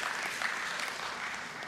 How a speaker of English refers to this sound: That was one of the nicest golf claps you guys have ever given me.